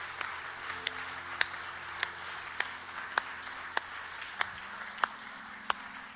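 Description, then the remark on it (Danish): An audience applauding to give Jesus a hand after a prayer: a steady, dense wash of many hands clapping, with sharper individual claps popping out about twice a second, holding an even level throughout with no voices. “Skal vi give Jesus en hånd?”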